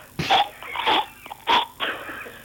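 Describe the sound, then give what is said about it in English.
A person imitates a cat hacking up a hairball: four harsh, gagging coughs in an uneven rhythm, each a raspy burst with a wheezy, strained edge, fairly loud with no talking. “And a cat with a hairball outside your bedroom window, that's real bad.”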